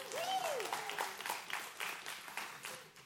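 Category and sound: crowd, round of applause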